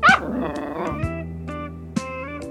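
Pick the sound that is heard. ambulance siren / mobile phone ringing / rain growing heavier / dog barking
dog barking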